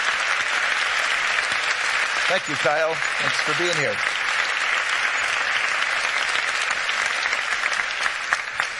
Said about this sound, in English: So I think he should stand, and we should give him a good round of applause for his presence.